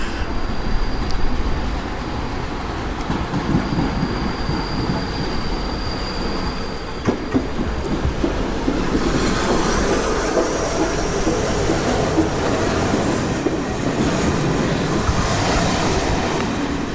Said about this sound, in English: I see a steam train. The train now approaching platform one doesn't stop here. It does. Please stand back from the edge of the platform.